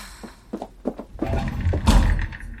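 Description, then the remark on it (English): A few light knocks and shuffles build up to the bridge doors slamming shut with a loud, booming thud near the end, with no one speaking. “I didn't know it was possible to slam the bridge doors.”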